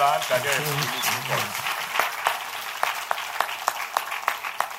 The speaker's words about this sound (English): Now praise the Lord. Clap your hands.